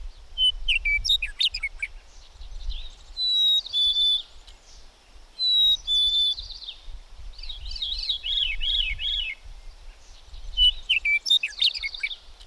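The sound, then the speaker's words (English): Several birds sing at once, layering bright warbling phrases, trills and sharp chirps in overlapping bursts, with faint low rumble underneath and no voices. “But after a bit came the realization that the music of birds formed a natural part of this place, constant as the glorious grass that made feathered life thrive.”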